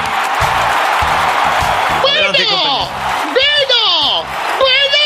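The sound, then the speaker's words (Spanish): A crowd bursts into loud applause, then excited whoops and cheering voices rise and fall over the clapping, energetic throughout. “Fuerte aplauso para”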